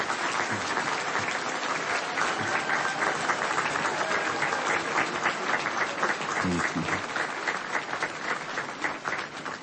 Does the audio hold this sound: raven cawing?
no